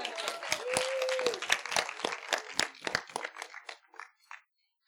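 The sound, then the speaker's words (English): A standing crowd applauds with dense, overlapping claps that gradually thin into scattered individual claps and fade to silence after about four seconds; a brief tonal whoop rises early on. “Yeah, y'all can't stand and clap at the same time.”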